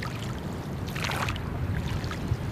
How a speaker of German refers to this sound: rudert das kleine Holzboot zurück ans Ufer. Unter einer der großen Autobahnbrücken hat die Familie ihre Anlegestelle.